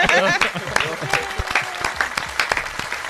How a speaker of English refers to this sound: And I would like to give them a round of applause for the hard work.